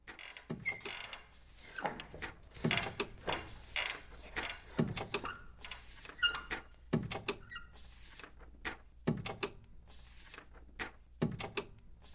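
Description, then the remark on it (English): Repeated creaking of a giant scrolling painting shown to a big seated crowd in the Apollo Rooms: a series of irregular wooden groans and squeaks in short bursts with brief pauses between, moderately loud, with no talking. “Banvard was there with this giant painting, and it, I don't know, I imagine it must have creaked”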